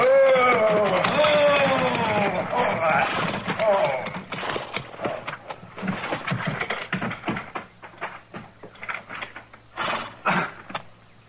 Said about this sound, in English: There's a wagon pulling into the yard. Why, that's the same... Same what? He's a peddler. Tinware and stuff. He come through here this morning heading west.